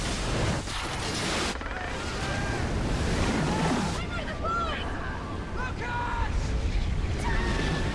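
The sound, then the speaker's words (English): In a film scene of the 2004 Indian Ocean tsunami in Thailand, a massive wall of water roars in after the earth trembles, a loud, unbroken rushing surge that fills the whole stretch, with faint voices and cries rising through the churning noise in the second half. “Then the earth trembles and the ocean roars in.”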